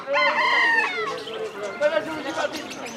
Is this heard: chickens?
yes